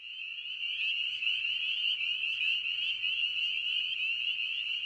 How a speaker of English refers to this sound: create a ventriloquy effect, casting the chirp all over your backyard and making it difficult to hone in on exactly where that frog is. Another reason the peeper seems so loud is also psychosomatic.